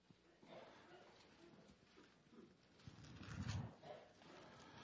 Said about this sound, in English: Somebody needs a cough drop in the hallway.